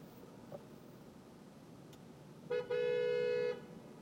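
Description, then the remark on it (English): A car horn honks twice over steady road rumble, a short beep followed by a longer, loud sustained blast, in traffic stuck behind a stopped truck among construction vehicles. “A lot of honking happening here.”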